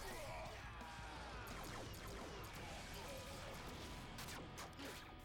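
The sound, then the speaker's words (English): A loud, sustained barrage of crashing, roaring blast noise fills the whole stretch, with sharp impact bursts cutting through, as a turbo cannon is fired and hits its target. “Turbo cannon.”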